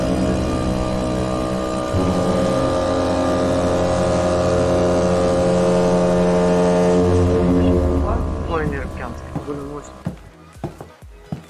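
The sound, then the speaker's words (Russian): A ship moving through water: its engine drones steadily with a deep, even, tonal hum for several seconds, then the rumble drops away as a voice starts speaking over the fading sound. “И сейчас мы с вами окажемся на палубе корабля, фантазируемого, виртуального, и будем двигаться к следующей точке, где познакомимся еще с одной интересной достопримечательностью Крыма, такой уникальный.”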